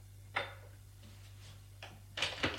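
An apartment door on the second floor being unlatched and opened: a sharp click, a pause, then a quick cluster of rattling latch and handle clicks over a faint, steady low hum.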